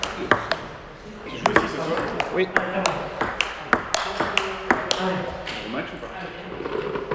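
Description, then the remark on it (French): Table tennis balls are struck again and again during table tennis matches in the division d'honneur, sharp bright pings in an irregular rally rhythm, several overlapping as if from more than one table, with voices talking underneath. “Le tennis de table est une bulle hors du temps”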